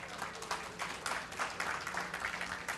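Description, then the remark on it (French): An audience of men applauding to signal yes, agreeing to compliment their wives each day, a dense, steady patter of many hands clapping at once, filling the whole clip at a fairly even level with small swells. “Si vous applaudissez, les gars, là, si vous applaudissez, ça veut dire que oui.”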